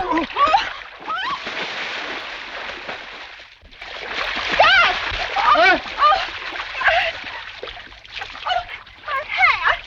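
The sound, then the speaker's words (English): Heavy splashing and churning water as a man carrying a woman he lifted out of a car stumbles and falls into the water with her, bursts of thrashing as bodies plunge and struggle, while voices cry out and shout over the commotion. “He stumbles and falls into the water with Linda.”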